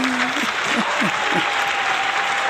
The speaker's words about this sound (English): Go ahead and clap for me, clap for me.